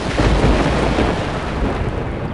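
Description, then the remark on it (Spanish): A deep, continuous rumble of thunder from a lightning storm in the Catatumbo region of northeastern Colombia rolls through a stormy wash of rain, loud and steady for its whole short span with no voices present. “Allí reside el relámpago más majestuoso de todo el planeta, que produce el 10% de todo el ozono de la atmósfera”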